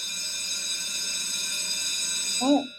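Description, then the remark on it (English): A bell rings continuously for over two seconds in one steady, bright, buzzy tone, then cuts off as a voice starts to speak. “As true as the bell rings, that is our daily segment, Democracy in Action.”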